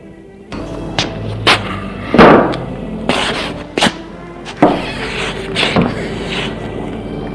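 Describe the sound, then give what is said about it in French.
A chair is pulled out in the common room; it scrapes and knocks across the floor, followed by a series of irregular wooden thumps and creaks as someone sits down on it. No voices. “Prend une chaise et s'assoit.”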